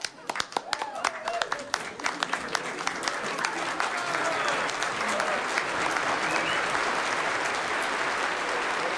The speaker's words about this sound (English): First, I got to say, you need to put a round of applause in there into the cast for me, if you would, please.